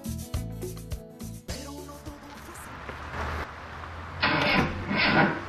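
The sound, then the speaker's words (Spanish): A short musical phrase gives way to a car engine cranking, its starter grinding and whirring in repeated strained bursts that never catch, growing harsher and louder toward the end. “Alambre, mi carro no arranca. ¿Qué te pasó, carro? Vamos, arranca. Debe ser la batería.”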